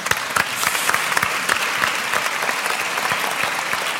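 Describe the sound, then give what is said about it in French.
Steady audience applause fills the whole stretch, many hands clapping densely, with sharper individual claps standing out against the continuous wash of sound, as an audience applauds magician Raphaël Navarro when he is welcomed. “L'applaudir.”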